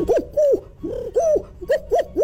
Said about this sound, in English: Turtle dove. You're right.